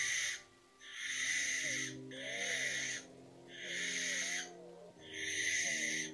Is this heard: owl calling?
yes